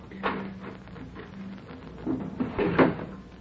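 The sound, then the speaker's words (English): Wooden clatter and knocking of doors being opened, with a sharp bump near the start and a louder rattling thud near the end over a faint low hum. “Open those doors.”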